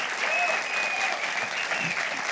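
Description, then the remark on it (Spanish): A crowd claps steadily, a dense continuous wash of applause with faint whistles or cheers threaded through, holding an even loudness from start to finish. The audience is answering a call to give God a loud round of applause. “Si tú crees eso, dale un aplauso fuerte a Dios, por favor.”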